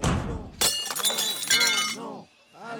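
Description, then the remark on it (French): A sudden loud crash of an Audi's car glass being smashed, followed by over a second of bright tinkling shards, while a man's voice talks and exclaims over it. “Bon bah, je la pète, alors. Ma bagnole!”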